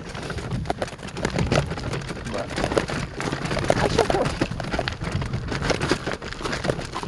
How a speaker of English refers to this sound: I can hear that crunching, but that's ice in the dirt here. Very friendly course, cart friendly. Can get a little slippery, so make sure you have good boots.